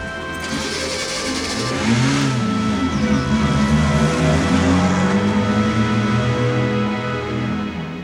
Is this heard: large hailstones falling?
no